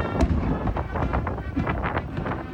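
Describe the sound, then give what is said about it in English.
A single sharp, booming cannon shot of a 21-gun salute for Jimmy Carter's remains at Dobbins Air Reserve Base north of Atlanta, Georgia, cracks out early, then a dense rumbling wash of outdoor noise and wind buffeting fills the rest, with no talking. “Hail to the chief, and a 21-gun salute came as the 39th president's remains were placed into a special air mission jet to the nation's capital from Dobbins Air Reserve Base north of Atlanta.”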